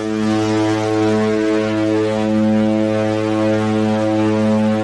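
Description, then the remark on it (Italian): A ship's horn sounds one long, steady, deep blast that holds at full loudness for about five seconds, rich in stacked harmonic tones, with no voices. “Anche questo viaggio sta volgendo al termine, ce lo ricorda la nostra sirena.”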